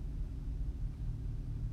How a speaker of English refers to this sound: Many cars out here.